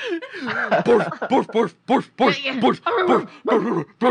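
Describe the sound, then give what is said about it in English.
A person imitates a pack of barking wolves, voicing a rapid string of short, yelping barks with rising and falling pitch, fairly loud, with brief gaps between bursts. “You just hear so much barking.”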